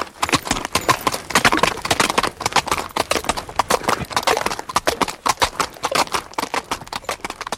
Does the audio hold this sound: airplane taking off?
no